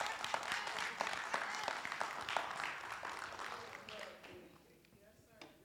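A church audience claps their hands during a sermon in a dense, steady burst of applause that gradually thins and fades over several seconds, with a few scattered claps lingering at the end.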